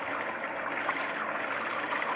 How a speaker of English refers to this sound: Just the rain.